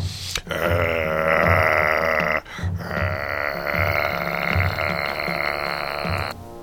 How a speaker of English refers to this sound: It is growling. She turns towards it. And she can see this time. It is two red eyes. She cannot make out anything else except the eyes. It is low to the ground, so she is sure it is some type of animal.